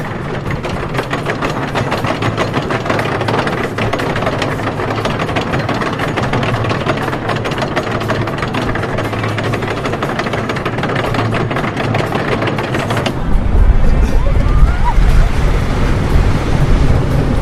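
A loud, continuous rattling roar of the newly reopened scenic railway, a grade II* listed wooden roller coaster, its train clattering along the track, rapid rhythmic knocking throughout, shifting to a deeper rumbling rush near the end. No voices are heard.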